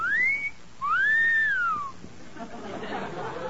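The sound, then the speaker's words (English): Wind whistles through an old haunted house in two eerie gliding tones that rise and fall, the second longer, before fading into a soft, breathy rush of air. No one speaks. “Hey, kid, just listen to the wind whistle through that old haunted house.”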